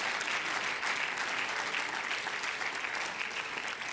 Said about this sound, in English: If you're glad your sins are forgiven, let's clap our hands unto God and bless his name.